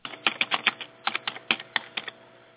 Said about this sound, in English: Oh, I thought I was on mute. I was typing. Yeah, okay. Yeah, you was you were typing on a real typewriter? No, on a on a keyboard.